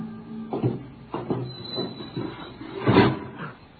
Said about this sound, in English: Open the door